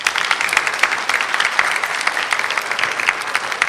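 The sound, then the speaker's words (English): Audience applause in a church service, for the readers, the organist and others involved: a steady wash of many hands clapping at once, dense and fairly loud, sustained without pause throughout, with no voices heard over it. “Okay, we're not going to clap everyone individually now, otherwise you're going to be here a long time.”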